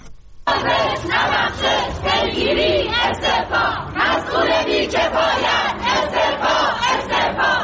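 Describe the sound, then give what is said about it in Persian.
A large crowd of journalists protesting on Wednesday in front of the Department of Environment building, demanding punishment of those responsible for the deaths of two journalists in the Urmia bus accident, chants loudly in steady, rhythmic bursts of many voices together, starting abruptly after a brief moment of quiet and continuing without pause to the end. “گروهی از روزنامه‌نگاران روز چهارشنبه در مقابل ساختمان سازمان حفاظت محیط زیست تجمع کردند.”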